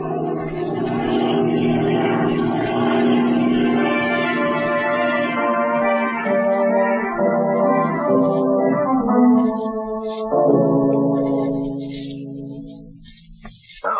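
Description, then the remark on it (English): A propeller plane lands on a lake and taxis, its steady, droning engine humming loudly, the pitch shifting and dropping partway through before the engine winds down near the end, with no voices. “Land in the lake and taxi up as close as possible to the place that fellow came down.”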